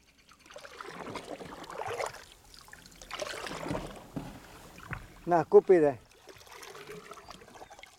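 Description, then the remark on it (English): Water sloshes and swirls as an old Kuna Indian man pulls a wooden dugout boat through a man-made lake at midday under a fierce tropical sun, with a few louder splashing strokes partway through and a faint voice murmuring in the background. “Midday, under a fierce tropical sun, an old Kuna Indian pulls a dugout boat through the waters above his old home.”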